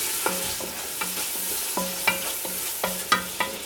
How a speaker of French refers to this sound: 2 cuillères à soupe de sucre. Et donc tu mélanges tout ça dans la casserole.